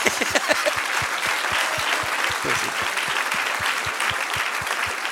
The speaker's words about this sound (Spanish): Dese un aplauso a sí mismo, eso es.